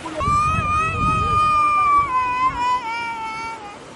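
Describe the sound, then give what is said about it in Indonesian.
A baby wails in one long, strained, high-pitched loud cry that slowly sags in pitch, over a low murmur of crowd voices, as a boat full of refugees from the Democratic Republic of the Congo arrives at Lake Albert, Uganda, in pre-dawn darkness. “Beberapa bayi menjerit histeris.”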